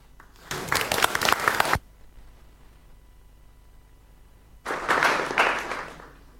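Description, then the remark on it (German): Two bursts of audience applause for the projector team, the first lasting about a second, then a quiet gap of a few seconds before a second round of clapping from a crowd, moderately loud. “Oh, Applaus für das Beamer-Team.”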